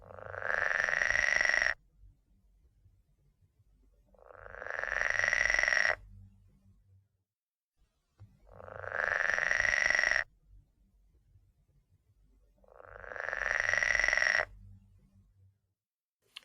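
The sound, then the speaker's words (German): A pool frog gives four loud, rasping snarling calls, each about two seconds long, spaced evenly with short pauses between. The buzzy, harsh calls sound alone, with no talking. “Dieser quakt aber eigentlich nicht im wahrsten Sinne des Wortes, sondern er schnarrt.”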